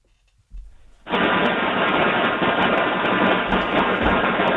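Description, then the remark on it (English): A steady, loud band-limited roar like a subway train rumbling through a phone line, kicking in abruptly after a short low thump and holding constant with faint clicks throughout. It is heard on a caller's line during a WFAN sports radio call-in show. “you on the subway?”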